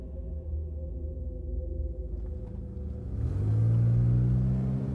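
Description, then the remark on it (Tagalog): A car engine rumbles steadily at low pitch, then swells louder and rises in tone after about three seconds as the car comes up to a house in a quiet community; no voices. “Ito ang inabutan namin ni Elmo habang papalapit ang kotse sa bahay.”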